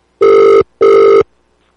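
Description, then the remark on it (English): A phone ringback tone sounds twice while calling a man back after he hung up, two steady electronic buzzes of about 0.4 seconds each separated by a short gap, loud, with no voices. “We'll call him back.”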